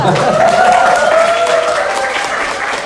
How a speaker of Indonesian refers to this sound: Tepuk tangan dulu.